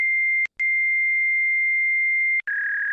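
A fax machine answer tone on a phone line: a loud, steady high-pitched whine with a brief break near the start, then it shifts slightly lower and turns a bit rougher at the end.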